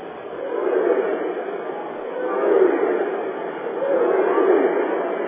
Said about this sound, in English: How about that? Listen to this crowd. Wow.